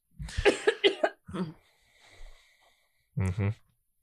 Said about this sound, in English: That cough that you just did didn't do nothing.